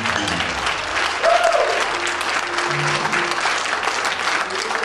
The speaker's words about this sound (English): Come on, clap your hands and give God some praise.